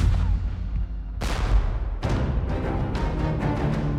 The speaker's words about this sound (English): Then, the men heard cannon fire.